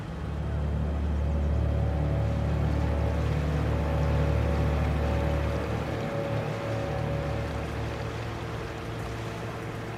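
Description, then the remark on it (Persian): A boat engine runs steadily with a low, constant droning hum and a wash of water noise, slightly easing off toward the end with no talking. “موتور رو خاموش میکنم.”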